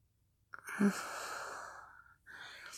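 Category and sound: human body sound, heavy panting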